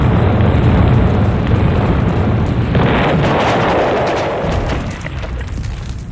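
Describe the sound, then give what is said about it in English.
A massive explosion by a square erupts into a sustained, roaring blast, dense low rumble with crackling fire-like hiss swelling mid-way as fire roars up the mall, then slowly easing off without fully fading. “The explosion, when it came, was like a door opening on hell.”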